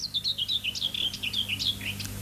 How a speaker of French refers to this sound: Fauvette.